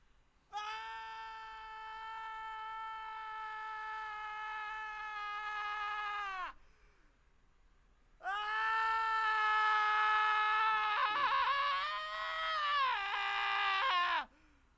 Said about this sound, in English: That's it? That's all you've got? You can scream more, louder.